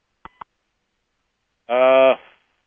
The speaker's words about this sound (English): Heard a beep? Yeah, I think I did too. Is someone else on the line?